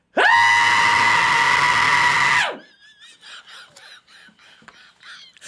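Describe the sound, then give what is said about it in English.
A single loud, piercing human scream holds steady for about two seconds, then cuts off abruptly, leaving faint, scattered high-pitched sounds trailing afterward. “I can still scream pretty loud.”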